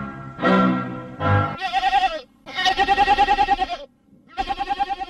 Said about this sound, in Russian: Появляется козел.